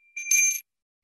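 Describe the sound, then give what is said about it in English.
A single bright strike of a Balinese bell rings out clearly on its own, a high metallic tone with shimmering overtones that sounds briefly and then cuts off quickly into silence. “So I am going to ring my Balinese bell right now and ask everyone to just take a moment.”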